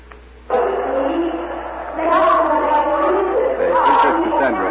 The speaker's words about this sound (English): Big crowd growing every minute. It seems as if every citizen of Troy is coming into this market square carrying torches. The people are listening quietly, intently.